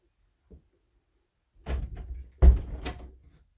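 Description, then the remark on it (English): A bedroom door that was not fully closed is pushed open: a faint click, then a low scraping rumble and a solid wooden thump as it bumps to a stop, followed by a brief rattling settle. No voices. “I didn't know your door wasn't closed all the way.”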